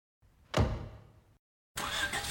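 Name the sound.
knocking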